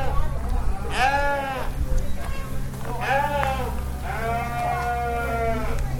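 sheep bleating

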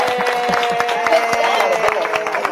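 hand clapping

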